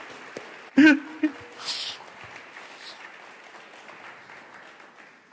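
An audience claps steadily for several seconds, a soft, dense patter of many hands, with a brief vocal whoop near the start and a few sharper claps standing out early on.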